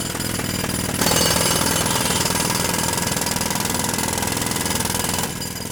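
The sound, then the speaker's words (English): A jackhammer pounds away in rapid, continuous bursts, loud, with a rumbling engine beneath, as workers dig up a sidewalk in New York; the hammering kicks in after a second and runs steadily before easing near the end. “Sidewalks are dug up constantly by men wielding jackhammers for reasons that remain largely a mystery to me.”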